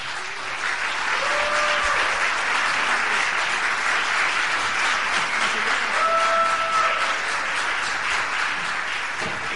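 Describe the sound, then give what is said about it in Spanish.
Steady, dense applause from an audience welcoming two people coming up to the front, loud and continuous, with a few brief whistle-like tones and faint voices rising through the clapping. “Podemos recibirlo con un buen aplauso, ¿no?”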